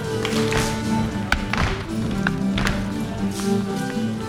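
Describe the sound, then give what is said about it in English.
Contra dancers in a hall stomp and clap while swinging their partners around, a busy, steady clatter of footfalls and sharp hand claps, layered over sustained musical tones with a dense crowd hum underneath. “The room is filled with stomping and clapping as dancers swing their partners around.”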